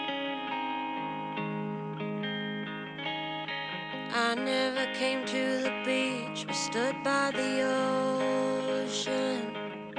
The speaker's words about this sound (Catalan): Ara posarem una cançó de la